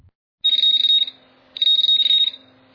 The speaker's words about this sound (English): That beep is part of an alert system we have that monitors the universe day in and day out.